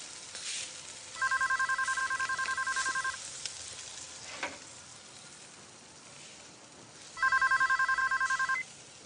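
A telephone rings twice with a rapid electronic trill, each burst lasting about two seconds, separated by a pause, over a steady sizzling background hiss; the call is from the municipal security office.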